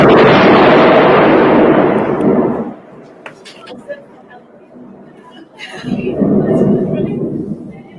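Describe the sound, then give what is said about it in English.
Loud, deep rolls of thunder rumble for a few seconds in Parramatta as rain begins, fade into a quieter lull, then a second long rumble swells back up. “So that was thunder.”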